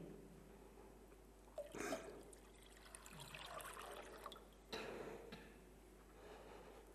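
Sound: water being poured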